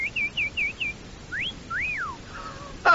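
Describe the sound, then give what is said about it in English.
A male robin's call: five quick, high chirps in a steady run, then two rising-and-falling whistled sweeps, a brief held tone and a sharp closing burst, with no talking. “Did you know this is the male robin redbreast's idea of a beautiful, well-dressed lady? Ha, ha, ha! Or as the male robin would say...”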